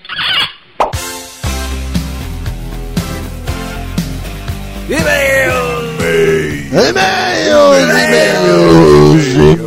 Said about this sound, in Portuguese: E-mails. Nossa senhora, quanta gente gritando e-mail.